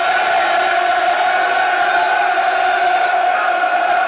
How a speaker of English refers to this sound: Flags at full mast. And the crowd getting behind the Lions.